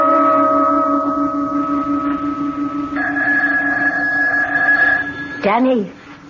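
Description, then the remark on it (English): A steady, sustained bell tone hums with layered ringing overtones, shifts to a slightly different chord partway through, then breaks into a brief warbling, swooping glide before fading out. “I am near the end of my pilgrimage, and the bell is sounding again.”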